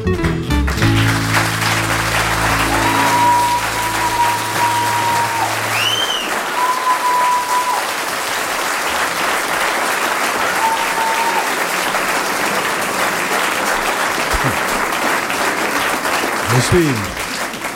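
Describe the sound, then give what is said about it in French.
A large audience, including quite a few women, claps steadily and loudly for the whole stretch, a dense wash of applause, with a few sustained musical tones lingering at the start as the song ends. “Nous sommes toujours très étonnés avec cette chanson parce que il y a quand même pas mal de femmes qui applaudissent.”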